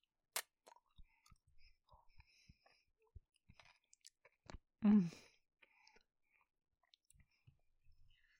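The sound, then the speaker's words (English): Quiet chewing of crunchy food with little crunchy bits, with scattered sharp crackles and soft clicks and one louder crunch midway, set against near silence with no talking. “I love the little crunchy bits in this.”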